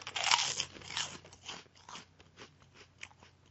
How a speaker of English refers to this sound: And for my next thing, I'm going to do a pork skin break where I chew on a pork skin. Listen to this.